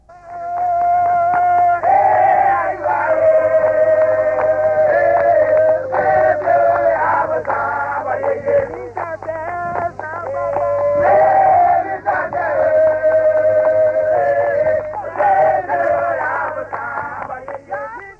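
Voices chant together in Adawe, a Ga group song equivalent to Akan Nyomkoro: a steady, loud group song with sustained melodic lines repeating in short phrases, and rhythmic hand clapping running beneath them throughout.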